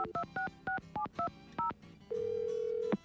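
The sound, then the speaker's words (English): A quick run of about seven telephone keypad tones, each a short two-pitch beep in brisk irregular rhythm, as someone dials Curdo, followed by a steady, clear ringback tone. “Hey, let's call this Curdo.”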